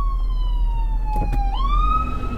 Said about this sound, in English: ambulance about to get loud. Hang on. This is what happens when you do a podcast where you're driving your car.